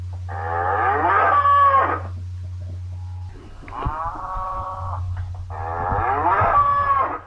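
Shaggy black and white Galloway cattle mooing loudly on a farm on the eastern edge of the Yorkshire Moors, UK: two long, drawn-out lows with a shorter moo between them, over a steady low hum and no talking.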